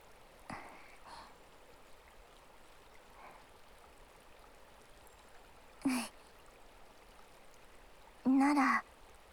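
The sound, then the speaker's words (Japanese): A river stream flows steadily on its lower reaches with a soft, constant rushing hiss, broken by a few brief louder bursts, including short voice-like sounds near the end. “まずは両手とも川の水に浸して冷やして”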